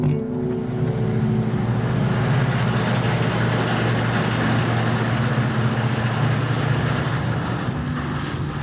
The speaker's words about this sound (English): In some parts of the country right now, that sound, hydraulic drills and compressors used in fracking, is a constant presence. In Texas, the Dakotas, Pennsylvania, and other places too,